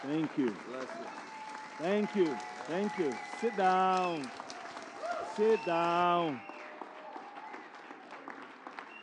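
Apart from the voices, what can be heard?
standing ovation applause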